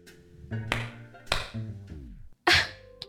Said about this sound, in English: You just clap your hands and the stereo turns on? Yep, this baby is state of the art. You turn it off the same way. Try.